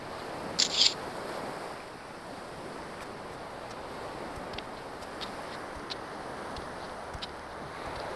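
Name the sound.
ocean waves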